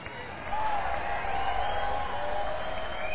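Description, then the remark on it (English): A crowd breaks into applause and cheering, a dense steady roar that swells in suddenly after a brief lull and holds loud, with scattered whoops and voices rising over the clapping. “The initial wave of applause is very nice.”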